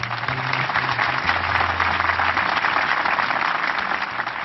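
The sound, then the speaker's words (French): A crowd of spectators applauds steadily after the signing of the Israel–PLO declaration of principles, dense rapid clapping blending into a loud, continuous wash that holds at even strength throughout, with a faint low hum beneath. “Le document signé, la foule des spectateurs applaudit.”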